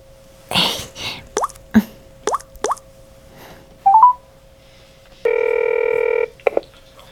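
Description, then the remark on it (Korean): A few quick, separate beeps of buttons being pressed as a phone number is dialed, then a single loud, steady ring tone lasting about a second, ending with a soft click; the call is about a room for rent seen on a room-hunting online cafe. No one speaks. “아, 저 방구하기 카페 보고 전화드렸는데요.”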